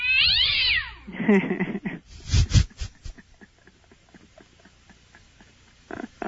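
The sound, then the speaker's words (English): A cat lets out a loud, drawn-out yowl with a rising and falling pitch, then a harsh, strained cry, followed by quieter scuffling and a few soft clicks. “Okay, what is this cat saying?”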